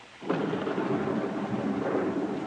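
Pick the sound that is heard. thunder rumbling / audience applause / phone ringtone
thunder rumbling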